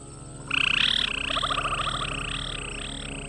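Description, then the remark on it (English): A chorus of recorded frogs croaking in a steady, pulsing rhythm, with layered high-pitched calls overlapping loudly against a constant ambient hum, played through speakers of a sound installation at Terminals C and B of Logan airport, part of a mix of 8 tracks of birds, frogs and insects on 38 speakers. “38 sound speakers playing a mix of 8 tracks of the sounds of birds, frogs, and insects.”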